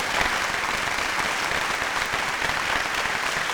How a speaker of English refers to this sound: So I applaud you. You know what? I'm going to applaud you. Full crowd applause.